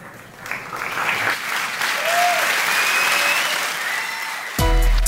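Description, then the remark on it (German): Loud, sustained applause from a large audience at the end of cultural scientist Sascha Sabo's lecture on the science of roller coasters. Scattered cheers and whistles rise above the clapping, which runs steadily for several seconds before cutting to a brief musical tone. “Nicht abrupt, sondern mit ganz großem Jubel endet der Vortrag Airtime, die Wissenschaft der Achterbahn, des Kulturwissenschaftlers Sascha Sabo.”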